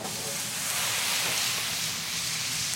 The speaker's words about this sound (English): I went into the pasta pot. I took a ladle of water, and I threw it in the pan with the sausages and the garlic and the oil.